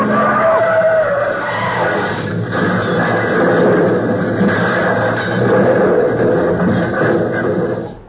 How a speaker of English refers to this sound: Look, look at those two cars weaving down the street. Oh, they're going to crash. Look out, look out, look out!